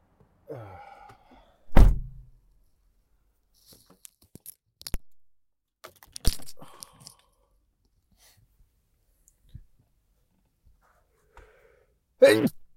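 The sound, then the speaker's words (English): A loud sneeze with a rising voiced wind-up and a sharp burst, followed by scattered quiet clicks and thumps, then another abrupt vocal burst at the very end. “But you know what doesn't sneeze is soda.”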